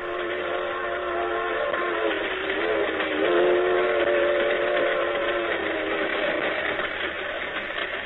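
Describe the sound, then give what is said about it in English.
A freight train, heard from the floor of an empty boxcar, rumbles along in a steady, dense roar while a steam whistle holds a long, wavering, multi-toned blast over it, swelling strongest midway before fading back into the rolling noise. “My back feels broken riding on the floor of this empty box car.”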